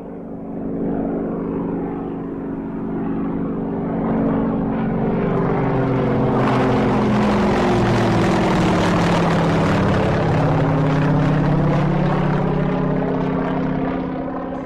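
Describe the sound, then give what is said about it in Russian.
A propeller airplane flying to New Orleans through a storm drones steadily and loudly, its engine hum rising into a fuller roar partway through and holding, with no voices. “По пути в Новый Орлеан самолет попал в шторм.”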